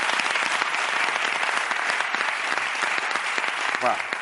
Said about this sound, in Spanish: Bueno, un aplauso muy grande para él.